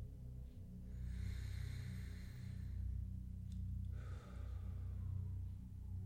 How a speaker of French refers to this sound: Et je vais te demander de prendre une bonne respiration.